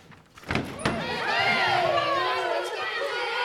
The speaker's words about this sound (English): Well, I opened the door, and pouring out of the schoolrooms were dozens of energetic, active youngsters. Much like youngsters I'd seen in other schools, only most of these wore the clothes of the poor, oversized caps, cut-down adult pants.